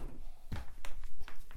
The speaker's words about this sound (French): Toc, une valise.